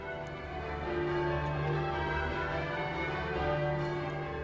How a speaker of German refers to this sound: Und die Dirigent ruft eben zwischendurch, welches Muster das wir jetzt spielen soll. Und am Schluss von diesem 12er Kehli kommt immer die tiefe Glocke. Gäng die gleichen Töne, aber so anders kombiniert. Und alle spielen alles auswendig.